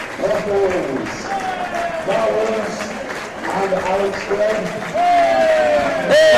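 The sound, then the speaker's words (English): A large stadium crowd roars continuously as the match officials appear, cheering the assistants and booing the referee, with sustained cheering mixed with drawn-out booing and jeers, loud throughout and swelling again toward the end. “Everyone's cheering the assistants, but booing the referee.”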